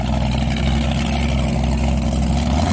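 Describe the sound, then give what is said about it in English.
A high-speed canal shuttle boat engine on the San Sap klong in Bangkok, Thailand, roars steadily and loudly, a deep droning rumble with harmonic hum and constant wash of noise, with no voices over it. “And whilst Venice might have gondolas, Bangkok offers a far more thrilling alternative, high-speed shuttle boats.”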